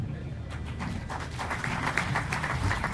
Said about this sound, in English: Okay. What a superb answer. Another round of applause for that closing statement. Thank you for that.